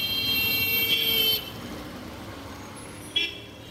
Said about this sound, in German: Es herrscht reines Verkehrschaos. Von links, von rechts, von hinten, von vorne kommen sie. Stinkende LKWs, dröhnende Busse, qualmende Mopeds, Radfahrer, Fußgänger